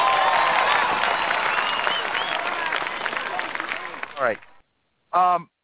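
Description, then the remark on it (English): A crowd applauds with dense, steady clapping for the last musical groove played on a show, gradually fading over about four seconds, followed by a brief moment of silence and a short burst of a man speaking. “Let me give an applause to that last groove.”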